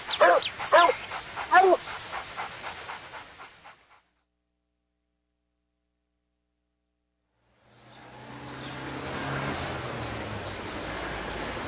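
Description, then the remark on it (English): A dog barks several times in quick, sharp bursts, fairly loud. After a pause of silence, a steady wash of outdoor background noise takes over. “Dogs live in cities. People bring them to the park.”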